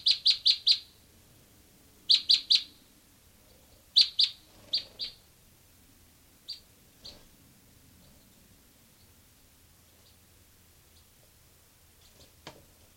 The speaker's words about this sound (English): Recording here, bird 385.